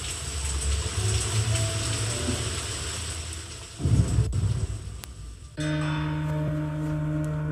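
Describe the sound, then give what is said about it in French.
Deep, rolling thunder rumbles steadily outside at night for several seconds with a brief louder surge, over a constant hiss like rain, then gives way to a steady hum with a faint tonal drone. “Il a éteint les lumières et à l'extérieur, le tonnerre se met à gronder comme si la nature ressentait par empathie les maléfices à venir au cours de cette nuit.”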